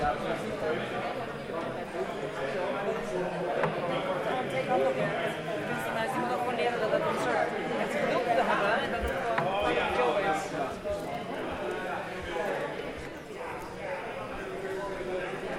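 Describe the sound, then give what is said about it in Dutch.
Footsteps climb a spiral staircase in a steady rhythm as people walk one floor up to an artwork, heard beneath a constant murmur of crowd chatter and echoing voices. “Ja, we gaan nu even naar boven lopen. Naar het kunstwerk. We moeten over de roltrap. De wenteltrap.”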